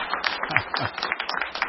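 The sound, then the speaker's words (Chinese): A group applauds to thank an old friend, with a steady, dense patter of overlapping claps lasting under two seconds and a faint voice briefly audible beneath the clapping. “大家为老朋友鼓掌，感谢感谢老朋友哈。”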